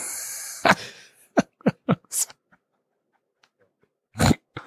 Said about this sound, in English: For those listening at home, the dog is crying. It's very funny.